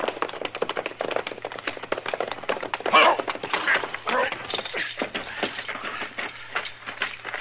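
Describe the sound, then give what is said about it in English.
Rapid, rhythmic clatter of a horse's hooves at a quick gait as a rider heads down into a river bottom, continuing steadily throughout with a faint low hum underneath. “there's somebody over there on a horse heading down into the river bottom.”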